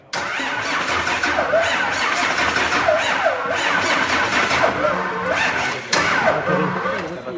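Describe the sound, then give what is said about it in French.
A racing truck's heavy engine cranks over and over in steady, labored bursts without catching, the starter whirring loudly, with a brief renewed attempt near the end; it fails to start because the batteries are weak. “Non, non, mais là, il va pas démarrer. Apparemment, les batteries sont faibles.”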